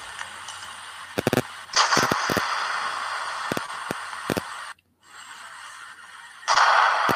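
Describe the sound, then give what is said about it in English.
Explosion sound effects: a steady roar of rumbling noise punctuated by sharp, sudden blasts in quick clusters, dropping out briefly before surging back louder near the end. No voices. “How about some explosions for this?”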